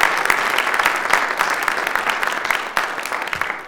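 Steady audience applause welcoming a speaker, a dense crackle of many hands clapping at an even loudness throughout, with no voices standing out above it.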